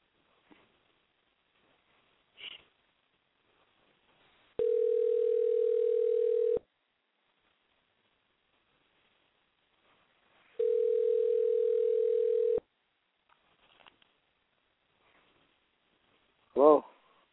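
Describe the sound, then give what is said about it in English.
Two long, steady telephone tones, each about two seconds with a pause between, as a call is placed from a phone set on mute. Faint clicks and a short burst of voice come between them. “I'm going to put your crappy-ass phone on mute and call this old perv, okay?”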